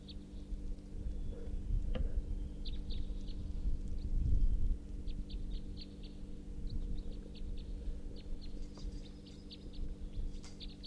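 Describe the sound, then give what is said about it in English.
A male bird, numbered 342, calls repeatedly from his tree, giving short high-pitched chirps in irregular clusters over a steady low background rumble. “It could just be that that male is calling now from his tree.”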